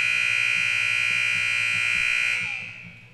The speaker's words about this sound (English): That's about the longest buzzer in history.